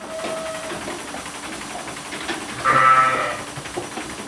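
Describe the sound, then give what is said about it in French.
Sheep and lambs bleat in a barn as a farmer feeds and tends the flock, spreads straw and helps reluctant lambs suckle; one loud, wavering bleat stands out near the end over a background of fainter calls and steady mechanical hum. “il nourrit et soigne son troupeau, épand de la paille et, lorsque c'est nécessaire, prend le temps de faire téter les agneaux récalcitrants.”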